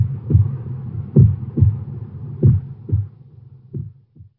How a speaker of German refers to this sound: Schließlich hört das Herz auf zu schlagen.